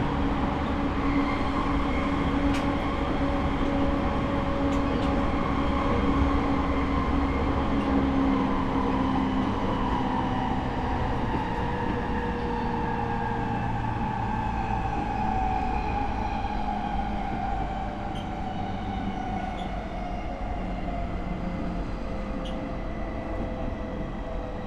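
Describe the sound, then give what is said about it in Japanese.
Steady interior rumble of a moving Tokyo Waterfront Area Rapid Transit Rinkai Line train approaching its terminus, Shin-Kiba, with a continuous low roar and droning tonal hum from the motors, held at an even, fairly loud level for the whole stretch with no voices. “通過のため電車が揺れることがございますのでご注意ください。”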